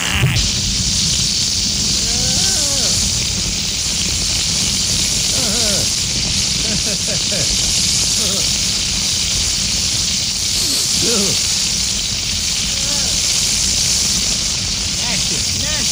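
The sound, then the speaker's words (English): A grease fire roars and sizzles in a frying pan, a loud, steady crackling hiss that runs unbroken from start to finish, with faint voices murmuring underneath. “Ah, let it burn itself out.”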